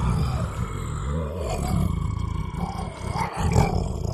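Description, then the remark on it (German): A sabre-toothed tiger lets out a deep, rumbling roar that rises and falls across several seconds, loud and growly with strong low tones and no talking over it, in the prehistoric area where Berlin later arose. “Das hat sich angehört wie eine Katze. Ja, muss aber eine ziemlich große Katze sein.”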